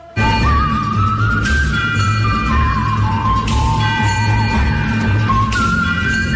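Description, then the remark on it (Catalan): A whistled melody from the score of the 1964 film A Fistful of Dollars carries over a dense, steady musical backing, with bright bell strikes ringing out every couple of seconds and a low choir chanting tribal onomatopoeias underneath. “Trobem la melodia xiulada, campanes i un cor fent onomatopeies tribals,”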